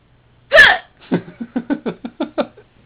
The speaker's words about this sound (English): So you just have to hiccup as you have been.